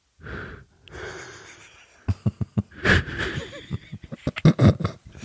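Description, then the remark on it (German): A voice imitates a character's breathing for listeners to guess, with teeth pushed forward: two long drawn-out breaths, then a string of quick, sharp huffs and snorting gasps, unaccompanied by words. “Und ich mache jetzt ein Atmen und ihr sagt, wer da gerade atmet.”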